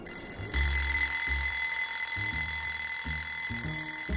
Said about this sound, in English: alarm clock goes off, but she is already up and getting dressed.